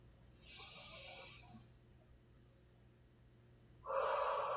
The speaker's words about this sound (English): I'm also going to add in some of my own breathing as I do that.